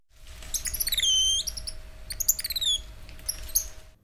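Birdsong of high, thin chirps and gliding whistles, several quick descending trills in bursts, over a low steady rumble and a faint constant hum; no voices.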